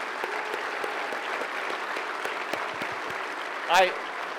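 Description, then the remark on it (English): Sustained applause from a sizable crowd at a Republican political rally, applauding the speaker's family: a dense steady patter of many hands clapping, fairly loud and even throughout, with a brief louder burst near the end. “So, everyone, give my family one more round of applause, please.”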